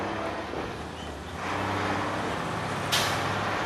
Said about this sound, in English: When they've been fitted with the neon tubing, the panels and the giant cup are loaded onto flatbed trucks and driven carefully through crowded New York City streets.